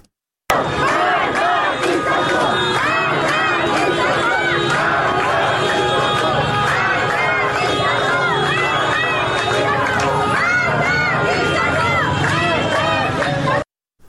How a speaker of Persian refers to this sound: بنابر گزارش های رسیده به رادیو فردا، به دنبال انتشار خبر درگذشت مهسا امینی، تجمع های اعتراضی در نقاطی از شهر تهران برگزار شد. در این اعتراض ها شعارهایی علیه مقام های حکومتی به ویژه علی خامنه ای سر داده شد.